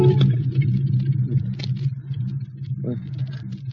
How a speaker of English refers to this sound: head slumps forward, strikes the horn of the steering wheel. A piercing sound rouses him from his stupor.